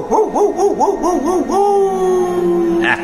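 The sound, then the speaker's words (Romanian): A dog vocalizes in a quick run of warbling, wavering yowls, then holds one long, steady howl-like note before a brief noisy burst at the very end. “Ia latră tu blestemul ăsta!”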